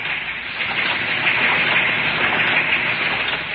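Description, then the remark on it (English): A V-mail processing machine at the Navy's Fleet Post Office in New York runs with a loud, steady rushing clatter, a dense wash of mechanical noise that holds even throughout, with no voices. “It's V-mail equipment.”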